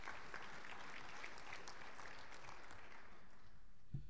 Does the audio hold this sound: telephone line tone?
no